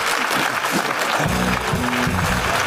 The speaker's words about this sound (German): da gibst du dem Affen einfach ein bisschen Zucker, damit da der Applaus auch besonders laut ist.